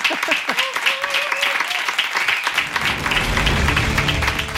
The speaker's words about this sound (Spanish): Toca vamos con el aplauso a Joaquín Reyes. Gracias.